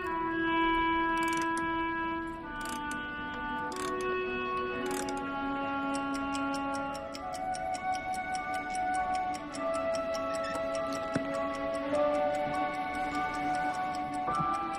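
clock ticking

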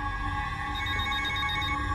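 mobile phone ringing

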